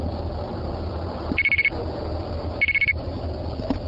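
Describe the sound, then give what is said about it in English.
Two quarters registering in a payphone to pay for a local call: two short bursts of five rapid, high electronic beeps each, about a second apart, over a low steady line hum. “Did you want to pay with coins? Sure. Okay, just go ahead and put it in.”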